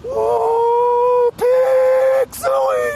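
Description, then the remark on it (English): A lone voice belts out the Woo Pig Sooie hog call, the Arkansas Razorbacks football cheer: a long, sustained high-pitched "woo," a second drawn-out held note, then a short rising "sooie" to finish, fairly loud. “I mean, Woo Pig Suey is our call for our football players and everybody.”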